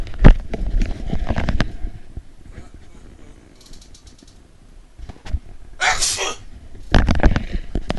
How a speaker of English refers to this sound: And, I might have to sneeze.